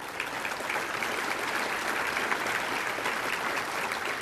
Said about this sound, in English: I get the chairmanship, but they did all the work, and I wish that you would give them a round of applause for their sacrificial efforts to the Bryan College Station community.